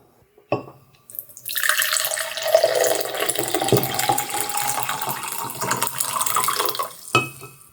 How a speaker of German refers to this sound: Ich muss mir hier schnell ein bisschen Tee einschenken.